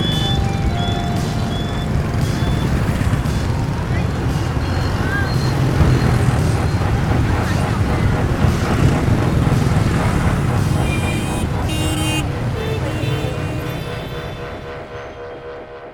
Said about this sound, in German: Als der Wagen durch das Haupttor hinausrollt, stehen die Wachmänner stramm und salutieren.